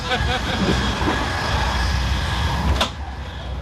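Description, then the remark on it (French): A night train rolls along the rails at night as it starts to rain, with a steady, dense rumble and faint whining tones, until a sharp knock near the end, after which the noise drops noticeably quieter. “Vive le train de nuit.”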